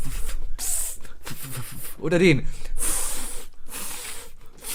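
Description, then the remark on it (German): A voice imitates a lawn water sprinkler, as in a Simpsons Milhouse sketch, with a series of loud, hissing spray bursts. A short voiced, wavering sound interrupts them midway, and a brief spoken question comes in between. “Welche Wassersprenger machst du lieber? Magst du den hier?”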